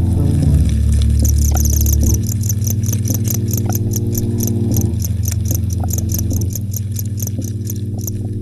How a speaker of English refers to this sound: And so yesterday I went down to the pet store and I bought some more crickets, and I brought them home and I just put them in a peanut butter jar and I waited for them to chirp.